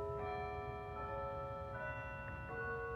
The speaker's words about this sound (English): Just then, he heard the church bells ringing.